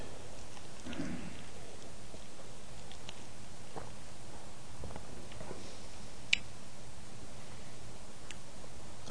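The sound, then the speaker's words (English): Ice being chewed: a steady run of soft, crackly crunching with a few sharper cracks, one loud snap standing out. No one speaks. “Pardon me while I chew my ice.”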